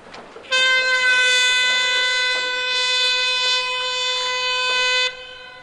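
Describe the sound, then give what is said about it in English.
A single loud, sustained air horn blast holds a steady, brassy tone for about four and a half seconds, then cuts off, leaving faint outdoor ambience. It sounds at 12 noon at the British Open at St. Andrews, Scotland, to begin a two-minute silence for the victims of the London bombings. “This will begin on the sound of an air horn.”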